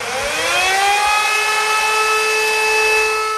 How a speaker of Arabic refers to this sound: هذه أصوات صفارات الأنذار التي تعلو مجددا هنا في ستيبانكيرت، صفارات تنبئ بسقوط قذائف على عاصمة ناغورني كاراباخ.